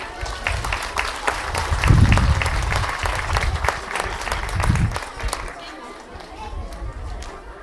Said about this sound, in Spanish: Son las que hoy, en este momento, nos van a decir, nos van a contar y nos van a dar la bienvenida a esta actividad. Un fuerte aplauso.